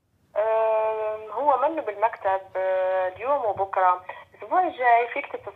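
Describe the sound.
A phone call is underway, placed to try to reach a spokesperson of the Syrian National Council: a narrow, tinny voice comes down the line with sustained, held tones, as if from an automated message or hold audio, steady for several seconds.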